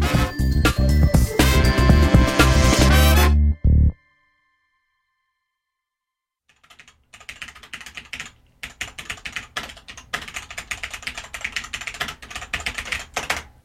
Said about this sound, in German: Die Schreibmaschine unter den Tastaturen. Mechanische Tastaturen im Test.